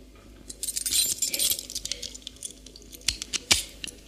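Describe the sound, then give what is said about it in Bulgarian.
Metal keys jingle and clink in a bright, busy flurry for about a second and a half, then a few sharper scraping clicks follow as a key unlocks a door. No one speaks. “Ето ключа. По-скоро отключвай вратата.”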